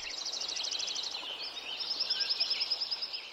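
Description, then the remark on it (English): Dense birdsong fills a mountain meadow and forest at Lincoln Meadow, Yuba Pass, California, before the forest was logged, with rapid repeated high trills and chirps overlapping continuously from several birds over a soft ambient background and no voices. “Krause's recording of Lincoln Meadow at Yuba Pass, California. Here it is before the forest was logged.”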